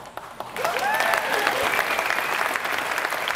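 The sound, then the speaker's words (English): A crowd breaks into applause after a brief quiet moment, steady dense clapping that holds at an even level, with a few faint voices and a whoop mixed in. “Don't clap yet.”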